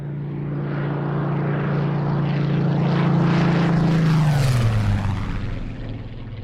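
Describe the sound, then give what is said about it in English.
A Spitfire Mark 14 propeller fighter plane with a Rolls Griffin engine roars past, its loud engine drone swelling to a peak and then dropping in pitch as it passes and recedes, with no voices present. “For the Mark 14 had an even more powerful Rolls Griffin engine.”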